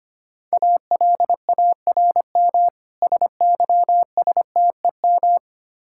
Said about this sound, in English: Alarm system.